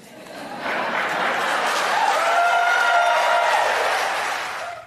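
An audience breaks into sustained applause after a candidate answers "I do" to a question about a plan to deal with Mitch McConnell, quickly swelling to a dense, steady roar of clapping mixed with some cheering that holds for several seconds before cutting off abruptly.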